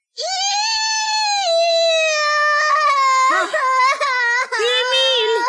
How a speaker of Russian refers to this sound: Сестренка Ида ревела, и Эмиль тоже.